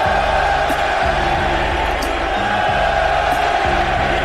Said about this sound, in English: Bush struck out, but Horner has singled, Tucker has walked, and the crowd is roaring.